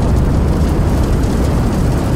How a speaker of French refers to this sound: C'est le matin, le soleil pointe à l'horizon, et au lieu des oiseaux qui gazouillent, on entend le rugissement sourd de la boule de feu.